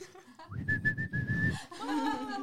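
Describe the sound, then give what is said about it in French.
A person whistles a bird call: one steady, held note lasting about a second over a rough, breathy rumble, then a brief voiced, laugh-like sound. “Comment ça fait quel bruit les oiseaux”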